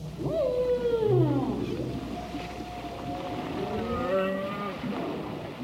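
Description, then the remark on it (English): Long, sweeping calls from a group of humpback whales moan and glide up and down in pitch, several overlapping cries with rich harmonics over a low rumbling underwater background, on a calm, clear, sunny afternoon. “A group of whales is headed this way.”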